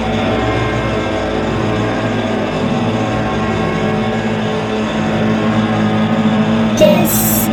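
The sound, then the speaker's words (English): A loud, steady distortion effect: a thick, gritty buzzing drone packed with harsh harmonics, holding constant for several seconds before a brief bright, crackling burst near the end. “Distortion. Distortion.”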